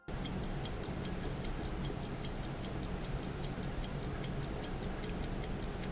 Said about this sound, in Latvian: Šādi skan hronometrs, ko komponists Valds Pūce ir mantojis no sava tēva režisora Voldemāra Pūces, un šis laika fiksētājs ir lieti noderējis Valtam Pūcem mūzikas, jo īpaši reklāmai domāto skaņdarbu radīšanā.